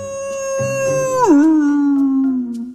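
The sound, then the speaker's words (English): A single loud, drawn-out howl from a great big wolf, clear, holding a high pitch before sliding down and trailing off into a lower steady tone. No one speaks. “She was standing next to a great big wolf.”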